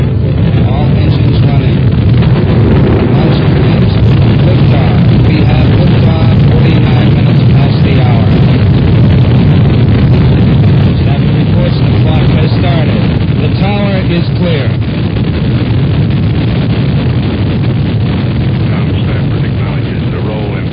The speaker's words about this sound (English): We have ignition sequence start. Engines on 5, 4, 3, 2.